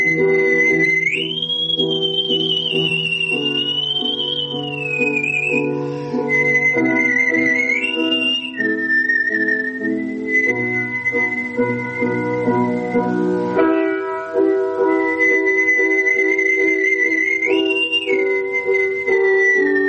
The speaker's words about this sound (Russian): Я входил в образ, исполняя, допустим, Любашу, я проникался ее страданиями, и свист окрашивался соответственно, эмоционально. Вот как это происходило, я сам даже не могу понять.